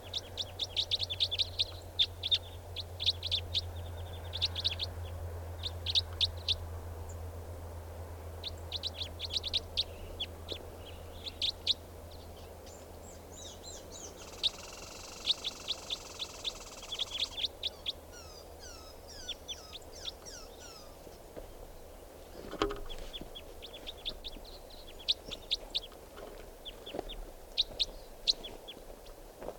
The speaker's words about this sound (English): That's four birds are all calling now, just perched in the tree, they're gonna take off.